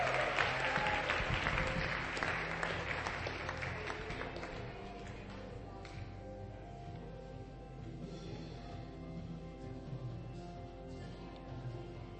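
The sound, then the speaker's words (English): An audience at a church service applauds the children's church facilitators. The clapping is dense and loud at first, then gradually thins and fades to a softer patter with a low murmur of the crowd underneath. “Let's give a big round of applause to our amazing children's church facilitators.”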